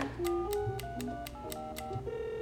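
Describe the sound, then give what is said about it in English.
A phone number is punched in: about eight quick button presses in a steady rhythm, each a sharp click with a short electronic tone that steps up and down in pitch. No one speaks. “Okay, one quick call.”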